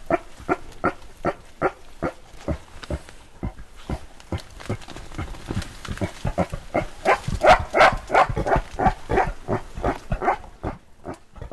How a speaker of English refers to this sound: The first one we're going to hear is what she labeled a pig grunt, and it's a sound made by the gorillas as a mark of annoyance or a warning to others to stop what they're doing.